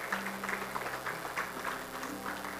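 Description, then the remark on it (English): An audience gives the Lord a hand clap of thanks after a prayer, clapping together in a steady, dense patter of many hands, sustained and moderately soft throughout, with no voices rising above it. “Give the Lord, go ahead and give the Lord a hand clap and thank him for that prayer.”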